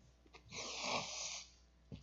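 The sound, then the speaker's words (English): A single forceful nose blow, about a second of loud, rushing nasal air with a brief sniff just after, no talking. “I'm going to need to blow my nose real quick, so hopefully I'm going to take this off for a second.”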